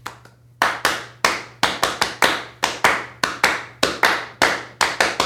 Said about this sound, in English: I don't remember where it came from specifically, but we all just thought it was a great idea. And then I learned, like, last weekend that people find that rhythm hard to clap along with.